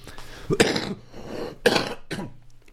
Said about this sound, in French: Pardon. Une petite toux.